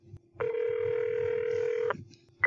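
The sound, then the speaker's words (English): A phone line rings out with a long, steady electronic ringback tone, a short pause, then the next ring begins. It's clear, with no one picking up. “They are not picking up.”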